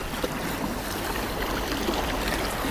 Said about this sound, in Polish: Takie są momentami takie uderzenia w ogóle, tak jakby. Tak, ta rzeka mocno. Jest taka żywa bardzo. To z góry nie spływa potok. Kamienie może są dlatego tutaj takie fale się... Ale ma pani rację, jak nad morzem. Tak jakby fale, prawda?